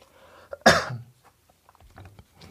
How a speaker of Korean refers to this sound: 죄송합니다. 제가 감기가 아직 낫지 않아서 기침이 자꾸 나오는데요.